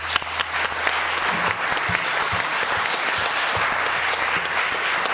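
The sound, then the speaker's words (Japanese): Steady applause from a church audience at the end of a worship service, clapping in thanks to God, many hands clapping together at an even loudness for several seconds, with a low hum underneath and no talking. “それでは今日の礼拝、感謝して神様に拍手しましょう。”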